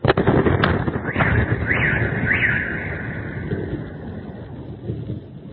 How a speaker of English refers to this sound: So, you hear the missiles shoot over. You see the flash in the distance. A few seconds later, you hear the blast come back. So now, Ukraine is attacking deep inside Russia with missiles.